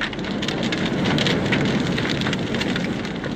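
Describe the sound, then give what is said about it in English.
A large bonfire burns with a straw-stuffed guy on it, the guy soaked in paraffin, at night after the rain held off. Its steady roar is filled with dense, constant crackling and popping, loud and unbroken throughout with no voices. “There goes the guy, sir. See how well it burns?”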